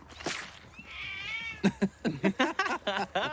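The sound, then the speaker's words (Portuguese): A female mother cat meows with a long, wavering, drawn-out cry, followed by a rapid series of short, insistent meows in quick succession, fairly loud with no talking. “A sua gata me atacou. É a gata mãe.”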